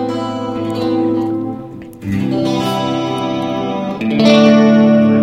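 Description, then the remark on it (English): Sustained electric guitar chords played through a Sea Machine chorus pedal on an out-of-phase setting and a Ghost Echo reverb, with a lush, shimmering chorus effect and a touch of reverb, changing chords a few times at a steady moderate volume, with no talking. “It's a nice, rich chorus.”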